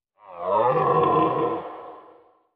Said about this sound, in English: There was a deer.